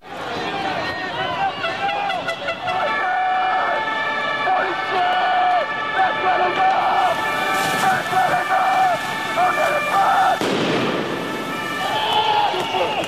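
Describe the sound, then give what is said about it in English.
A loud, chaotic street riot in France: a dense crowd shouting over wailing sirens, with a sudden sharp explosion bursting through the din near the end. “I think you're probably familiar with the riots in France”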